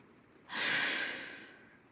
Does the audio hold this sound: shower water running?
no